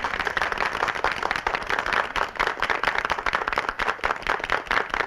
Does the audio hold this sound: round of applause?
yes